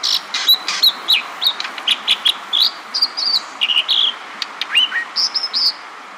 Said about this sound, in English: An American dipper calls across a rushing mountain stream. Its rotund stone-gray body bobs rhythmically up and down, its feet firmly planted. The bird's white-feathered eyelids flash like a semaphore.